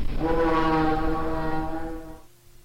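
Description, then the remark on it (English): A ship's horn blares in one long, steady, loud blast with a deep, buzzy tone rich in overtones, sustaining for about two seconds before cutting off and fading into low background rumble. “That's a ship.”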